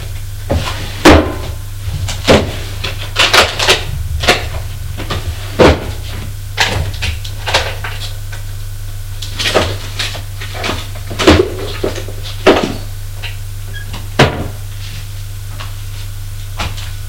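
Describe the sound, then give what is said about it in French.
Someone rummages through desk drawers looking for old photos: irregular bursts of wooden knocks, sliding scrapes and clatters, some sharp and loud, over a low steady hum, with no one speaking. “Enfin, il les trouve au fond du tiroir de son bureau, dans un vieux portefeuille en cuir noir.”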